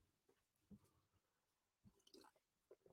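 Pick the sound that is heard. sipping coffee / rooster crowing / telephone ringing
sipping coffee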